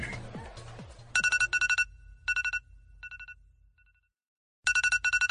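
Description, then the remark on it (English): An electronic alarm rings in loud, rapid bursts of high beeps, repeating in clusters with short gaps, falling silent briefly before starting up again, preceded by a moment of rustling noise. “turn your fucking alarm off.”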